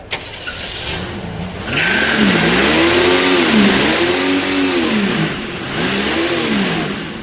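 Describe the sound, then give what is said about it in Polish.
The inline six-cylinder engine of an owner-restored 1966 Ford Mustang idles briefly, then revs up and down in about four repeated swells, a loud, throaty rise and fall with no one speaking. “Ma silnik jednorzędowy, sześciocylindrowy.”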